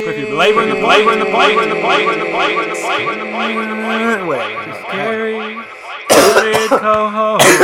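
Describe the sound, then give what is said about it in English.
Someone coughs and clears their throat in a few rough, harsh bursts, fairly loud, the last ones near the end, coughing on pumpkin dust, over a steady, tonal, humming background. “I'm coughing on it.”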